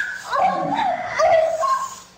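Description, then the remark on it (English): A dog growls and whines in one continuous, wavering stretch of vocalizing, fairly loud, with pitch sliding up and down and no clear pauses. “So I forgot that you were growling at me. I recorded it.”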